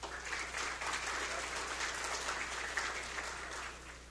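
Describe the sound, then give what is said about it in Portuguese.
A crowd applauds steadily at a municipal event in Santa Maria de Atibá, Brazil, a dense, even patter of many hands clapping that holds at a constant level for several seconds before easing slightly at the end. “e também assim uma salva de palmas.”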